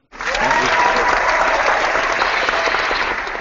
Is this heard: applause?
yes